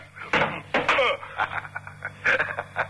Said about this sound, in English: Your gun hit the door